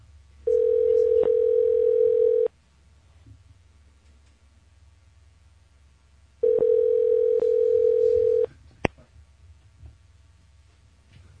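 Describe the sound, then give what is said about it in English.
Two long, steady ringback tones sound through a phone line on an outgoing call to Mint Nails, each lasting about two seconds with a pause of several seconds between them, over a faint low hum and a small click. “Get ready for the most boring call ever.”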